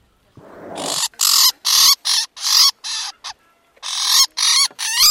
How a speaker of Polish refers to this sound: Ten ptak no, wydaje dźwięki, broni się, ponieważ jemu się nie wytłumaczy dla tego ptaka, że nie chce mu zrobić krzywdy. On po pewnym czasie wie. Jak płacze, znaczy, że coś boli.